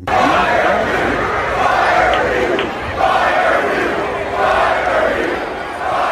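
A large crowd shouts and chants together in loud, continuous waves that swell and ease for several seconds, a dense roar of many voices with no single speaker standing out.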